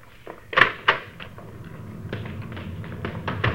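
The back door of a house is handled: a couple of sharp knocks and thuds from the latch and frame, followed by a series of lighter clicks and taps as it swings and shuts.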